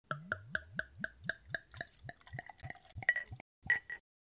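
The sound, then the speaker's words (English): Yacht Rocket, a 6% Urban Family Brewing Company passion fruit sour ale with coconut, glugs out of a bottle into a glass in a quick, steady series of gurgles that speed up and rise in pitch as the glass fills, with no talking. “I'm going to do some pouring here.”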